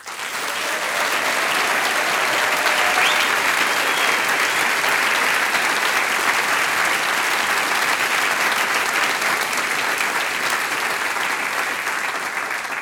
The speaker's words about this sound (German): Wir schicken einen riesengroßen Applaus hinaus ins Land an alle Hörerinnen und Hörer, die heute mit uns dieses 15-Jahr-Jubiläum feiern.